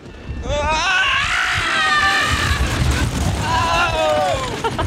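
A rider lets out a long, high, wavering scream as a wooden roller coaster plunges down its 85-foot big drop, with views of the Verrazano Narrows Bridge, Manhattan skyline and Atlantic Ocean, over a constant low rumble and rattle from the wooden track, with a second rising yell near the end.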